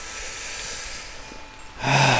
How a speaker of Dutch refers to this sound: Nog een aantal keren diep in en uit ademen.